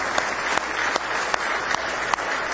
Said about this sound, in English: Give Him a big hand clap of praise if you love Him today.